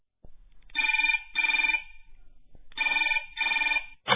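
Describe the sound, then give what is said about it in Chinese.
A telephone bell rings twice, each ring a bright, buzzy double burst separated by a short pause, clear with no voices. “电话铃又响了，咱们不得不接电话了。”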